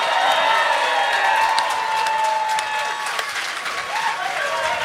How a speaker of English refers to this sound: All right, let's take a break. We'll get a round of applause.